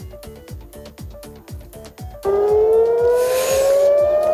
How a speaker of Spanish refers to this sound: Este es el sonido de las sirenas. Irán está respondiendo con un ataque de misiles sobre Israel después de que Estados Unidos haya entrado en guerra contra Irán en las últimas horas.